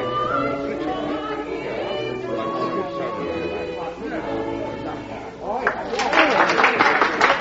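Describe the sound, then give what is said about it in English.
A woman's sustained singing, thin and harmonic, breaks off near the end as a burst of dense audience applause rises louder, many hands clapping together for the last couple of seconds. “But how is it possible to applaud such singing as this?”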